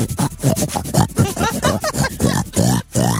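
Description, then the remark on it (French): During a game, a person imitates a pig with a rapid, continuous stream of snorting grunts and squealy oinks, loud, with barely a pause over about three seconds. “Ah, on va faire le cochon.”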